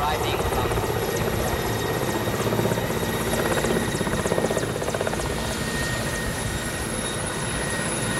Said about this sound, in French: Voilà, on arrive à Walikale. Après 50 minutes à bord de cet hélicoptère, j'ai l'impression que c'est le même qu'on avait pris en Afghanistan. C'est hélico de l'armée rouge, évidemment daté du temps des soviétiques, hein.